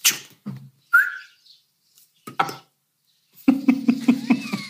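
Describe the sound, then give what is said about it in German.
A perched swallow chirps loudly, with sharp, rapid twittering bursts separated by short pauses, ending in a dense run of buzzy chatter. “Hier sitzt ein Vogel, der macht wirklich eine Schwalbe, die macht so viel Lärm, ne?”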